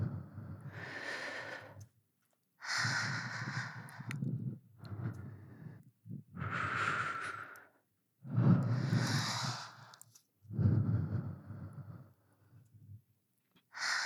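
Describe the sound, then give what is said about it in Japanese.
Six breathy exhalations blown onto a listener's ear, each a soft airy rush lasting about a second with short pauses between, fairly loud and intimate, with no talking. “耳にかかる吐息に興奮してるのかしら。”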